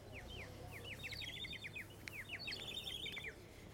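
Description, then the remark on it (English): A toy bird whistle, played by a man selling bird toys near the North Korean border between two bridges, chirps in quick, repeated warbling bursts of bright descending tweets, steady, over a low outdoor rumble with no talking. “Nope, it's just some guy selling one of those bird toy things. He makes bird noises.”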